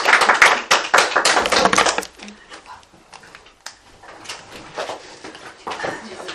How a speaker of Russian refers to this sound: На аплодисменты зашла, да?